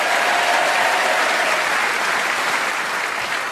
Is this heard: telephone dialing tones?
no